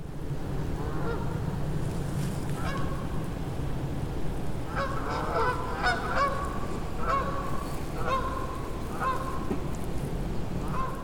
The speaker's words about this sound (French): Ah, j'entends des oies.